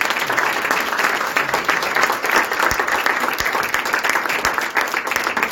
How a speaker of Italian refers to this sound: Noi ringraziamo questi fratelli, facciamogli un applauso che si sono prestati.